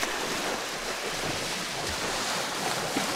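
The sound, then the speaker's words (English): Ocean water washes steadily around a small boat over a sandy bottom about 6 feet beneath it, a soft continuous rush of waves with a faint breath of wind across the microphone, unbroken, with no voices. “This beautiful sandy bottom about 6 feet beneath the boat. And the ocean just caressing me, just holding me up here.”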